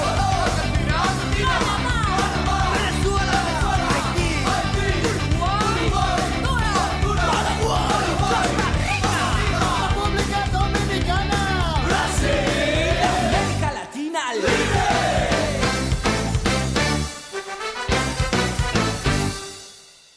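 A loud, energetic band recording plays throughout, with driving drums and gritty shouted vocals over a dense full mix, a short break about two-thirds in, then trailing off at the end.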